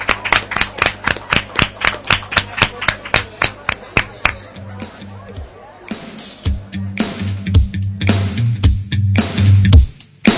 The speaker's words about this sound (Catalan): Adéu, i un fort aplaudiment per ells.